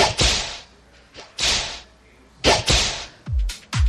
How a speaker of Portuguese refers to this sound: Prepara o lombo, que aí vem o chicote da verdade.